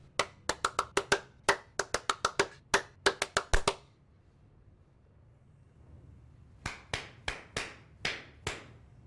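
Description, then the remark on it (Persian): A quick, uneven burst of about fifteen sharp hand claps, then a few seconds of quiet before six more slower claps. The claps are crisp and fairly loud, with no voices. “حالا کف بزن. اون دست زدنه.”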